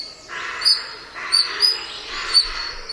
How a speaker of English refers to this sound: Now, these high-pitched squeaks might sound like birds, but they're actually the calls of a pair of otters. The European otter, or Lutra lutra, is an endangered species in Britain, mainly due to wetland drainage and water pollution.